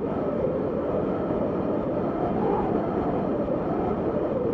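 Wind blowing across a mountain plateau in the Vercors makes a steady, loud, rumbling roar that never lets up, thick in the low and middle range, with no voices or other sounds.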